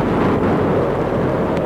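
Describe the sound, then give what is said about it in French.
A terrible storm with wind at a castle rumbles loudly and continuously, deep thunder blending with a steady roar of wind, with no voices and no pause in the noise. “C'est un orage terrible avec du vent.”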